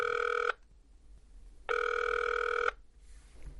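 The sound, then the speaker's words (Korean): A ringback tone sounds twice, two steady buzzy electronic tones about a second each separated by a pause, clear, as a phone call is placed to ask about bonuses, with no talking. “이번 기회에 한번 알아보기로 하고 어딘가로 전화를 합니다.”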